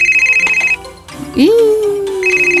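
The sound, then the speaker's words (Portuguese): A mobile phone rings again with a steady, high-pitched electronic tone that warbles rapidly, breaks off while a voice briefly speaks, then starts up again at the end. “Tocou de novo. Desculpe, eu vou atender lá fora.”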